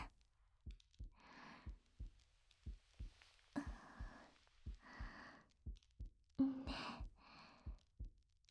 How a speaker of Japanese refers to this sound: 私の心臓の音、聞こえる？笑わないでよ。私もね、すっごく興奮したから、バクバクするの止まらなくて。